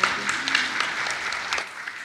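A steady patter of applause from an audience, many hands clapping at once in a dense, crackling wash that holds fairly even for about two seconds without fading out.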